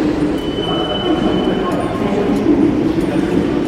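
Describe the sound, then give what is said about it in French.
Steady, dense rumble in the corridors of the Les Halles station on RER line B in central Paris, with a faint high whine from passing trains and indistinct crowd chatter echoing through the corridors. “Nous débutons notre exploration au cœur de la capitale, dans les couloirs de la station Les Halles, sur la ligne B du RER.”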